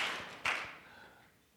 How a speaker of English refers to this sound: Oh, you don't need to clap. Stop.